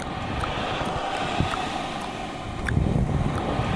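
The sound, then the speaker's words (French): Wind blows in a steady, low rumbling rush that swells a little louder toward the end, with a few faint ticks scattered through it and no voices; the wind is rising as the sky clouds over and turns threatening, just before rain begins to fall. “Le vent se lève.”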